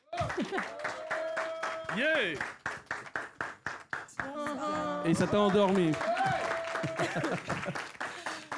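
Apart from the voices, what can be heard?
audience applause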